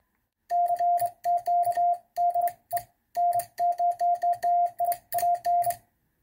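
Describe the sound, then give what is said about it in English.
Morse code tapped out on a semi-automatic bug key: a steady, mid-pitched beep switching on and off in short dots and longer dashes, with the key's sharp clicks audible at each press. Clear, with no talking. “If you have any interest in learning Morse code, it's not required anymore to become an amateur radio operator”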